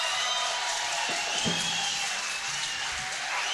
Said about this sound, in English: Let's give the band a big round of applause, y'all. How about it for the band?